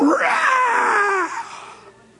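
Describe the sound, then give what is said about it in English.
A voice imitates the scream of a bird that sets its wings and swoops down for a closer view: one long, loud, harmonic screech that rises and bends downward, holding strong for over a second before trailing off into quiet. “She sets her wings and swoops down in for a closer view. Yeah, that's my seat, all right. And she lets out a scream.”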